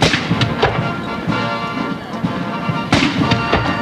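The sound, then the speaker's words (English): Cannons fire over the Potomac in a ceremonial salute as the Defense Department receives General Chur with full military honors: several heavy blasts at uneven intervals with one loud report near the end, over a dense, continuous outdoor rumble. “This morning, the Defense Department received General Chur with flags flying, anthems playing, cannon firing over the Potomac.”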